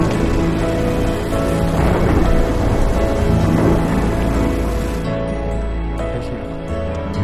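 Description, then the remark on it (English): Steady heavy rain pours down loudly and continuously over a pasture and swaying stalks of corn, with deep rumbling thunder rolling underneath as streaks of lightning crack; no voices, just a dense downpour throughout. “Streaks of lightning crack over the pasture and a downpour of rain falls from the sky over swaying stalks of corn.”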